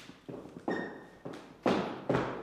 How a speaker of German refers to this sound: Ich weiß noch, ob ihr das gehört habt. Es knarzt und quietscht und klappert. Ja, das ist so ein alter Dielenboden. Also richtig, richtig krass mit einer extremen Geschichte.